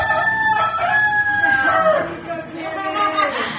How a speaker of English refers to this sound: And immediately the rooster crowed.